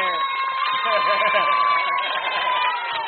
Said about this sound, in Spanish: Vamos, profe. Vamos, profe. ¿Ves? ¡Un aplauso al profe!